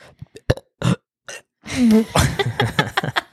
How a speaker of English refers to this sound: But can't most, if not all, people burp on command?